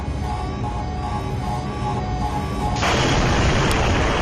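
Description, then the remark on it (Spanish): A deep, sustained explosion boom from a reactor, at about 1:30 in the morning during a test, rumbles loudly, then bursts about three seconds in into a harsher, wider roar that keeps going to the end. No voices. “Las barras de control de la parte activa del reactor hicieron que la explosión fuera inevitable.”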